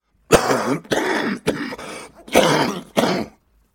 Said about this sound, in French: Il est un gros fumeur et d'ailleurs il se tient une belle bronchite. Bref, il se cache le visage entre les mains. Suit un long silence ponctué de quintes de toux.